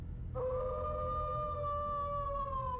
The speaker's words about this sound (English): Crap, what was that? Freaking coyotes in here now?